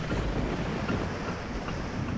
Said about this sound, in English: Can you hear that roar? Do you feel that breeze? The siren song and the crack and shriek, the souls of the sunken call to thee. Can you hear the roar of the open sea?